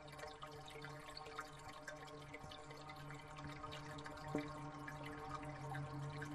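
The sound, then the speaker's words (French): Quiet, steady flow of water in the Bièvre river with scattered small drips and trickles throughout, a continuous watery wash with no voices. “parce que au bruit et la musique de l'eau, je sais qu'il y a un bruit différent.”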